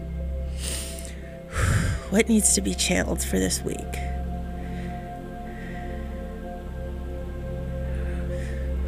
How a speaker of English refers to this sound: Breathing. Stay with me.